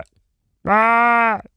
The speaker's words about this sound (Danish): Det er forkert. Det er nemlig to koalaer, der har lidt en diskussion.